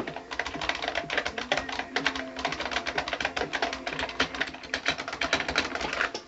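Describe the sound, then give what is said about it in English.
Rapid, continuous clacking of mechanical keyboard keys, recorded with a microphone placed right by the keyboard, fairly loud, with dense irregular keystrokes as keys are mashed at random throughout and no talking. “For example, you kind of heard earlier, I'm just going to take a microphone and put it right by the keyboard here.”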